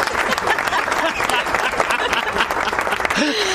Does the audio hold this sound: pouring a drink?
no